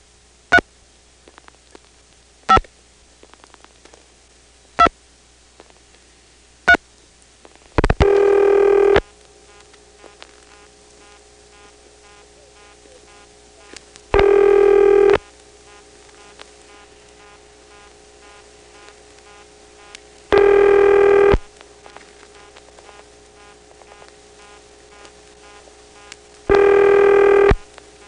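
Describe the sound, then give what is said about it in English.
Telephone switching equipment in Dale City, August 1977, dialing a 670 number from a touchtone phone: four sharp, evenly spaced clicks, then a loud buzzing ring tone that repeats in long bursts about every six seconds over faint line hiss, with no voices. “It dialed a zero. All right, let's dial the rest of a ringing number.”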